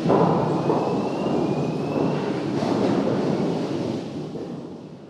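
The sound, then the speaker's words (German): A deep, continuous rumbling roar of roughly 2-metre tree trunk sections tumbling and knocking against each other as they are debarked inside a huge rotating drum at a factory in Weisenbach, loud, sustained throughout and easing slightly toward the end, with no one speaking. “Kurze Zeit später ist das dumpfe Donnern aus einer riesigen Trommel auf dem Gelände nicht mehr zu überhören.”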